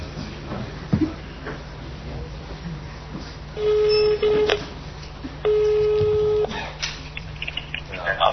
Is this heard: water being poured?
no